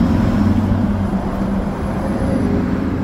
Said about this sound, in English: James sent us this video of an EV school bus he spotted in Raleigh County, West Virginia.